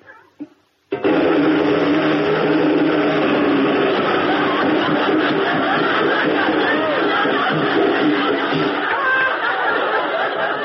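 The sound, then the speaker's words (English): A voice imitates a riveter's hammer with a loud, sustained, rapid-fire rattling clatter that runs steadily for about ten seconds without a break. “A riveter's hammer. Watch.”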